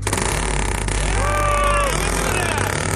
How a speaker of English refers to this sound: Jet Doctors, are you ready for your second rescue run? Yeah! Here we go! All right, start your engine.